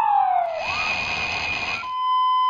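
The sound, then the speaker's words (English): A loud emergency vehicle siren blares on its own: a falling tone gives way to a harsh, rough, buzzing wail, then settles into a steady high electronic tone. “David Poppel and his team found that car alarms, sirens, and alarm clocks also have this quality, this roughness.”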